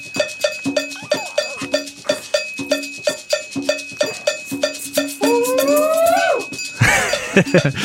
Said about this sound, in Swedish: Ja, just det. Där kommer koklockan.